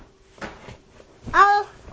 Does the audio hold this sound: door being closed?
yes